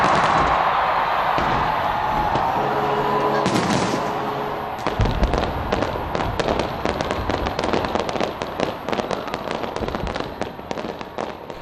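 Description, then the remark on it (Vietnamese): New Year 2020 fireworks bursting continuously in rapid crackling volleys, a dense barrage of sharp pops and booms that grows busier after the first few seconds, loud and sustained with a faint crowd murmur beneath. “Những màn pháo hoa bắt đầu rộn rã bầu trời từ đêm qua.”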